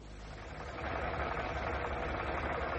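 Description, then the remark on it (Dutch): A car parked on a patch of grass on the corner: its engine turns over and catches, its rumble swelling after a moment and then settling into a steady, even idle with a low mechanical drone. “Pak jij je jas, dan zal ik van starten.”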